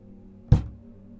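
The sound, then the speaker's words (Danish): A single dull knock on the outer door of a small, modest house, one heavy, low thud that fades quickly, with quiet background hum before and after and no voices. “I sådan et tyst øjeblik hørte de et dumt slag på yderdøren.”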